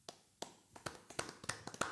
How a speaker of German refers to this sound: Wollen wir mal so einen richtigen Fußballer-Biertisch-Applaus?